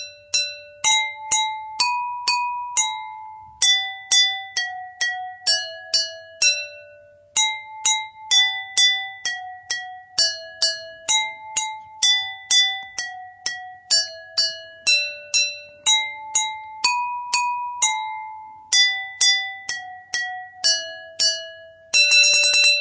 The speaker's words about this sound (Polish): Poznajesz? Kurki 3! Brawo! Słuchajcie, my wam tutaj zaprezentowaliśmy 3 melodie. W laskotek na płotek, kurki 3 i panie Janie. Możecie dołożyć więcej szklanek i nastroić je na nowe dźwięki i grać więcej melodii